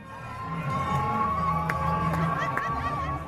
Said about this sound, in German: Feuerwerk, Fahnen, Tanz, Verbrüderungsszenen mit den Soldaten. Der Jubel war unbeschreiblich und dauerte die ganze Nacht über auf dem Tahrirplatz in Kairo und auf zahllosen anderen Plätzen im ganzen Land.